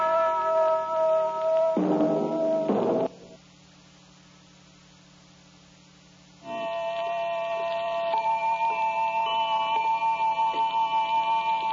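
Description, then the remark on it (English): A clock ticks at a steady, even pace beneath a sustained droning tone, introducing the radio program series The Clock. The ticking stops during a brief quiet gap, then returns with the drone. “We present a new series of radio programs, The Clock.”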